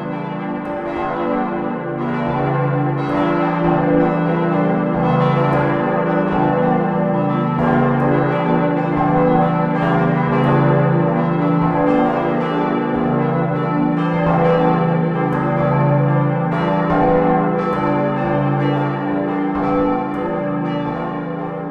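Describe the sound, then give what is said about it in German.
A simulation of how a full peal of six church bells will sound rings continuously, their overlapping strikes forming a dense, resonant wash of tones with a steady, rolling rhythm and no voices. “Es gibt eine Simulation des Glockenklangs, wie er dann mit den 6 Glocken klingen wird.”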